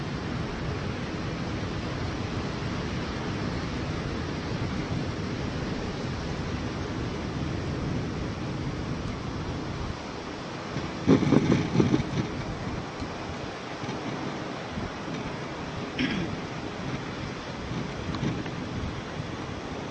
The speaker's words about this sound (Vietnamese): Thở vào và ra, tôi biết rất rõ là tôi đang nghe những tiếng sóng vỗ bờ.